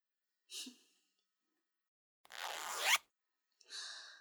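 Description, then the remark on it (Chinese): A clothing zipper is pulled as someone dresses, in three quick bursts, a short rasp, a longer rising zip that ends with a snap, then another brief pull, with no voices. “当心拉链夹到你的小兄弟。”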